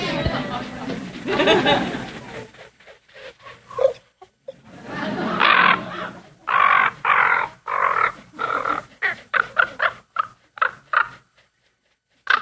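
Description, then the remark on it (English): A mob of ravens circles overhead above a moose carcass just outside Glacier Bay, Alaska: bursts of harsh, throaty croaks and gurgles, at first overlapping, then coming as a quick run of separate calls, loud. “These ravens, it was a mob of them, and they were circling around over my head.”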